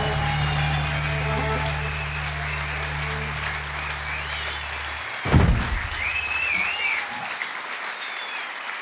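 Warm, steady applause from a Swedish concert audience at the Scala Theater in Stockholm while a low sustained final note rings out underneath, then fades after a single dull thump, leaving the clapping to continue alone.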